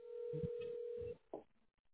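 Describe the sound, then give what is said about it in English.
A single steady phone keypad tone as button 2 is pressed in the automated phone menu of Expert Enhancement, lasting about a second over a narrow, telephone-line quality signal with muffled low thumps beneath it, followed by a brief faint blip and near silence. “Okay, I'm pressing 2.”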